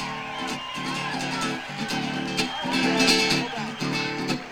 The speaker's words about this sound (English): Brilliant. That was great. Now's the time when you actually get to go back to your places in the audience as the applause continues for that wonderful job.